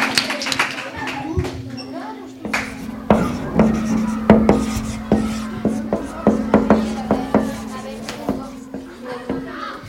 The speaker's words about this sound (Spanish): Cuando escribe un profe en la pizarra. ¿Momento de pizarra?